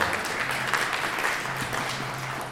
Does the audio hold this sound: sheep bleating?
no